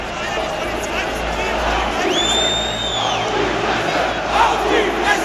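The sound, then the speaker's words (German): A crowd of hundreds to thousands of people at a football ground roars and yells continuously, a dense wall of shouting voices, with a shrill whistle-like tone rising and falling through the middle of the din. “Dann steht man da und irgendwie zwischen diesen Hunderten bis Tausenden Leuten, die auf die Fresse brüllen”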